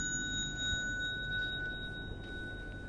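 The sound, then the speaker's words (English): A bell, rung as the signal to rise from prostration during a ceremony, rings with a clear, sustained metallic tone that lingers steadily for several seconds over a low background rumble, with no one speaking. “Then you come up only when you hear the bell.”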